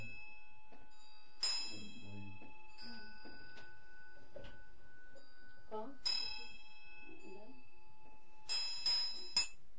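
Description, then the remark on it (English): A ritual hand bell is rung in three separate bursts, its clapper hitting the inside of the bell rather than the rim; each strike leaves bright, sustained metallic tones hanging in the air, with faint handling noise and soft background sounds between rings. “So this one, see, it doesn't actually, the middle of the thing doesn't hit, but the end of the, it hits the inside of the bell rather than the rim.”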